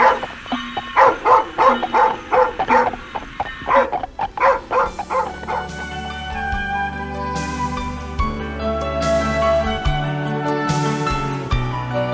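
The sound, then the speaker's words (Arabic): A dog barks in a quick, steady run of about eight or nine fairly loud barks, then falls quiet as sustained music carries on alone. “ماذا تريد أيها الكلب؟ أتريد أن أتبعك؟”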